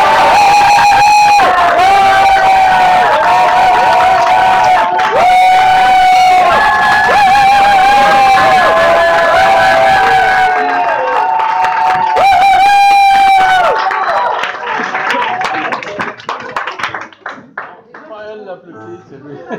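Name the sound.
audience cheering and applause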